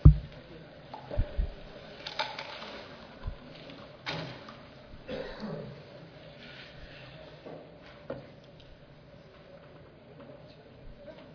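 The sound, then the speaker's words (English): A person at the back closes a door with a few bumps and thuds, amid a low rumbling background and faint, indistinct murmuring. “And if the person in the back, if you wouldn't mind closing the door, because there's a big sun glare.”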